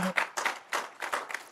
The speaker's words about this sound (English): Let's give God a hand clap for the word.